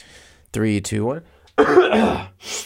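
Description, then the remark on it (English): A loud throat clearing before speaking into a microphone: a short voiced hum-like grunt, a brief pause, then a harsh, rasping clearing burst that trails off, with no talking around it. “Even if I, you know what's funny is, like, even if I don't have to cough, whenever I am about to do anything on a microphone, whenever I am about to, like, press record on this podcast, or whenever I'm about to, you know, make a video”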